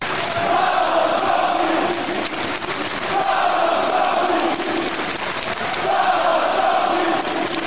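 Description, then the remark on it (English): A huge arena crowd roars and sings along in unison to wrestler Austin Theory's entrance theme, the loud chanted phrases swelling and repeating every few seconds over a constant wash of cheering. “What about the crowd going nuts, singing along to Austin Theory's entrance?”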